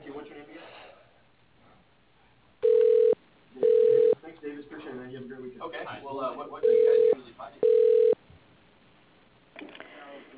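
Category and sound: signal or alarm, telephone call being transferred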